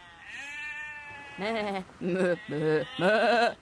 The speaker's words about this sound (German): Aber zum Glück gibt es uns die Schafe.